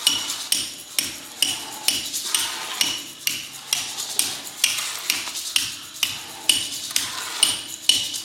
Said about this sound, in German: Avantgardistisches Musiktheater, in dem Profimusiker und ihre Instrumente ersetzt werden von Handwerkern und ihren Instrumenten. Nee, Werkzeugen.